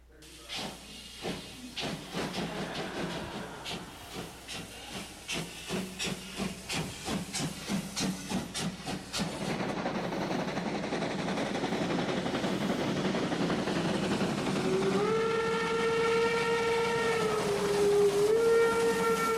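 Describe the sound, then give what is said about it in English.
A steam train chugs with quick, rhythmic puffs, then gives way to a loud, steady hiss of steam before a long whistle blows toward the end, with no talking. “So yeah, one of the first things I saw was a train.”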